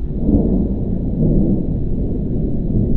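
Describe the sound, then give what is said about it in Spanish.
A low, continuous rumble rolls on steadily for a few seconds, deep and muffled: a distant thunderstorm rumbling high in the sky, with no voices present. “Fue ahí cuando escucharon la tormenta. Lejana, pero retumbando en lo alto.”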